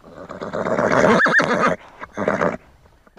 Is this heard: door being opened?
no